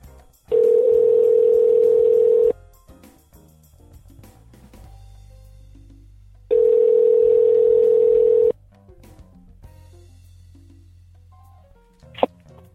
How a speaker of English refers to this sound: All right, let's get on Skype here, and I'm going to call Florida.